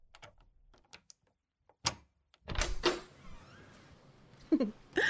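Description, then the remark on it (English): Small metallic clicks and a sharp clack of a lock turning, followed by a door off a hallway swinging open with a brief rush and creak, fairly quiet. “Open this fucking door or else.”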